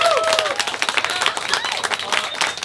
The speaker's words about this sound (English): Everyone, I want to give a big round of applause, please, get to your guys' self for being here. Thank you.